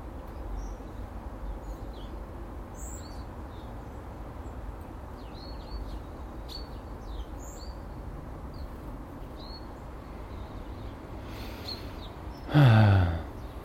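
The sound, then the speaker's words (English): Sparrows that have just landed in an Acer tree beside bird feeders chirp in short, scattered bursts throughout, fairly faint against a steady low outdoor rumble, with a brief louder whoosh-like noise near the end. “Little sparrows have just landed in the Acer.”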